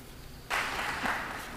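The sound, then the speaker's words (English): After a brief quiet moment, audience applause bursts in abruptly and continues as a dense, steady wash of clapping, fairly loud, with no voices over it. “That deserved an applause.”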